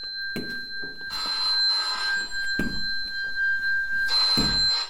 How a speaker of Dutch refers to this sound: Oh, de telefoon gaat. Soldaat Jones, zou u even de telefoon willen opnemen? Want ik heb mijn mond vol met toast.